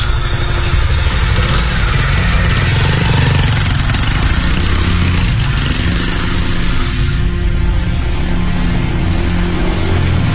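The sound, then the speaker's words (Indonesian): A motorcycle engine, throttled hard as the rider hurries home while drizzle begins to fall, runs loud and steady for the whole stretch, its low throaty rumble shifting in pitch as it revs, with no voices over it. “Sebelum akhirnya hujan besar, aku pun segera tancap gas motorku.”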